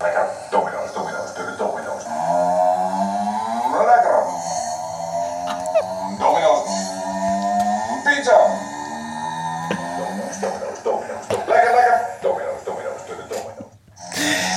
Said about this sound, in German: Das ist das Geräusch. Er fährt durch die Welt. Der Typ ist jetzt genervt auf seinem Roller. Ist tatsächlich Domino's. Und ist anscheinend Dominos, niederländische Dominos, wo die Roller diese Geräusche machen.